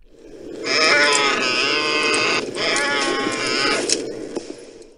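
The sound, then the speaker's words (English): A Tauntaun creature grunt from the ice planet Hoth: a loud, raspy, bleating cry with wavering pitch, lasting about four seconds with a brief break midway before trailing off. “You're on Hoth on a Tauntaun, my friend.”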